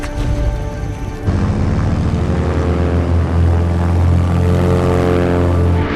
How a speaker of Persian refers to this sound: هواپیمای ناشناس اینجا گشت مرزی. فرکانس رو ببر بالای 1145 تا راهنماییت کنم کجا فرود بیاین.